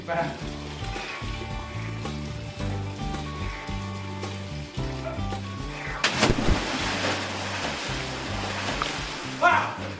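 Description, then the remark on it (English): A single loud splash as a person jumps down into cold water bursts out midway, followed by churning water noise, all over steady background music with faint voices. “The filming crew and others say because everything went according to plan, they want me to celebrate by jumping down into the water down here.”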